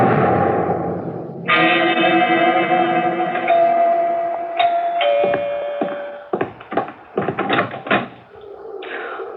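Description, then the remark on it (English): A door is pushed shut with a run of sharp, echoing thuds and clatters, after a sustained ringing, chime-like tone and a wash of noise. There is no talking. “Don't shut the door, please.”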